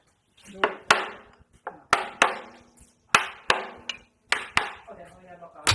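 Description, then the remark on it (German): A hammer knocks repeatedly against the side of a wooden whisky cask at a bottling station, a dozen or so sharp, ringing strikes in an uneven rhythm, fairly loud, struck to loosen the bung so it can be pulled out. “Wieder der Hammer. Der Mann mit dem Hammer.”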